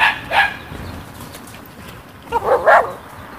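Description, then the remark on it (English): A dog barks during a walk in two short bursts, one at the start and a cluster near the end, sharp and moderately loud over a low rumbling background with no one talking. “Oh, that, by the way, is not the same dog.”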